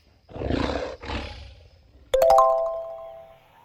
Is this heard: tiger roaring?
yes